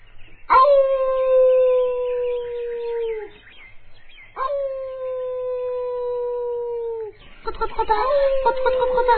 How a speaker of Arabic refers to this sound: ما هذا الصوت الذي أسمعه؟ أعتقد أنه صوت ثعلب. ثعلب؟